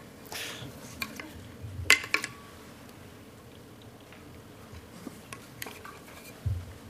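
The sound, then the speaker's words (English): Someone takes a drink of water: a few soft clinks and handling clicks, a sharper knock near the middle, faint sipping and swallowing over a low steady hum, with no talking. “All right, I'm going to pause, take a drink of water.”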